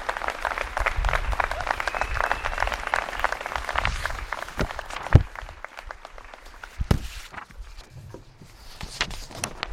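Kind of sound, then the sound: crowd, audience applause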